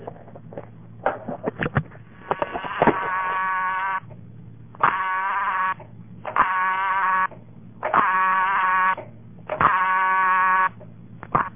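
A burst of sharp mechanical relay clicks gives way to a buzzy, harmonic-rich telephone dial tone from a step-by-step (STEP) exchange in a town of about 110 people, the dial tone coming on unusually fast, sounding in several steady segments with short gaps between them.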